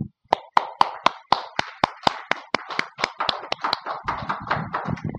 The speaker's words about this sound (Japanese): 早速ですが、お迎えしたいと思いますので、皆様拍手で迎えていただければと思います。